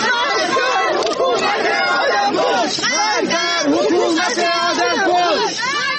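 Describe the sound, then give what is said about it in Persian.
A crowd of mourners shouts together at the funeral of poet Baktash Abtin at the Imamzadeh Abdollah shrine in Shahr-e Rey, many raised voices overlapping in a loud, continuous roar of rising and falling cries for about six seconds. “و این فریادها که می گویند شاعر در نگذشته، جان باخته.”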